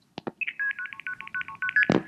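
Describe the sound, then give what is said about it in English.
Internal switching tones from a 4A toll crossbar exchange, heard in the background of a long-distance call; internal telephone company tones the switches used to communicate with one another, not touch tones: a rapid, evenly paced run of about a dozen short two-tone beeps, bracketed by a few sharp clicks at the start and a burst at the end. “Now, back in the day, when you dialed a long-distance call using one of these 4A toll crossbars, you would sometimes in the background hear something that sounded like this.”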